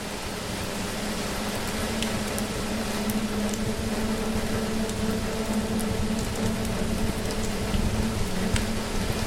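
crackling fireplace fire

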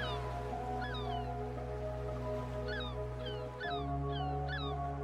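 seagulls calling

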